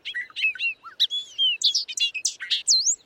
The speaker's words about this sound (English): Loggerhead shrike. Stuck on a raptorial passerine, this bad boy is a songbird that hunts.